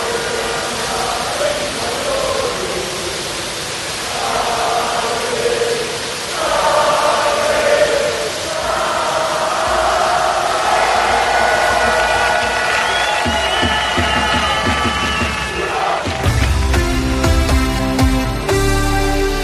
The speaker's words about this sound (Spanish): Así sonaba anoche la afición burgalesa en la Fuente de los Delfines.